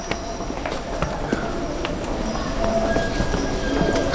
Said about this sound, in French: URSS, Leningrad. Station de métro Plochetlenina. 28 décembre 1985, 17h20.